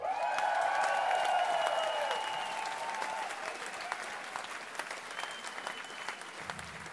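A concert crowd bursts into sustained applause for a band, dense clapping throughout with a few cheers and whoops near the start, the noise easing slightly as it continues.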